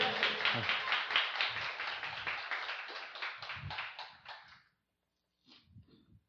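Warm applause from a crowd, a steady, dense patter of many hands clapping for several seconds before fading out; after a short pause, a faint voice begins.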